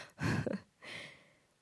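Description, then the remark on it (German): Someone clears their throat with a short, rough burst from the chest, then lets out a softer, breathy exhale, with no talking. “Da räuspert jemand.”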